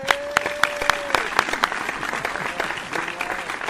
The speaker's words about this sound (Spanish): un aplauso.